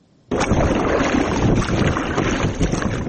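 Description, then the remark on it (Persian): An inflatable rubber boat carrying passengers across the Kofarnihon River at Shirkhoni village, Hisor district, near Dushanbe, with a steady loud rush of water and wind buffeting the microphone. The sound starts abruptly and continues without pause, and no one speaks. “ساکنان کرفتاده دهه شیرخانی ناحیه حصار را که همگی در 10 کیلومتری مرز جنوب و غربی دوشنبه جایگیر است، قبلا با قایق چوبی، حالا با قایق رزینی”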